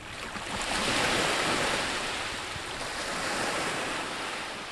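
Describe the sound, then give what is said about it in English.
Gentle waves wash steadily onto a beach in a continuous soft hiss, swelling slightly and easing back, with a light breeze in the background and no voices. The beach lies in front of where a man's home once stood, in a southern hemisphere place in summer. “Today, soft waves lap up on the beach in front of where Andrade's home once stood.”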